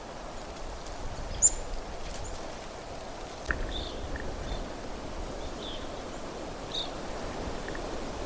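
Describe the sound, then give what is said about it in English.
Evening grosbeaks, not very close, give a few faint, short, high whistled chirps at irregular intervals over a steady rushing background hiss with a couple of soft knocks, around the Clearwater Lake area on a cloudy, dark morning as light rain begins. “Ahead of me, I hear evening grosbeaks.”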